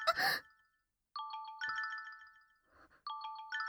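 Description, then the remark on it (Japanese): A smartphone ringtone plays a bright, repeating electronic melody in short chiming bursts, clear, preceded by a brief rustling noise at the start. “私のスマホだ。”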